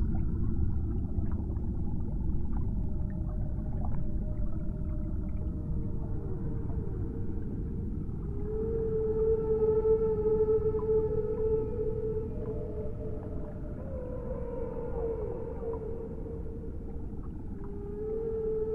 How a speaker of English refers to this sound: Take time to enjoy this encounter with the whales and let your thoughts flow with their song.